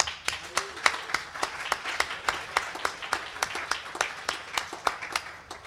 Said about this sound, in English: Before we walk off this stage, I'd like to hear a great big round of applause for our sound people.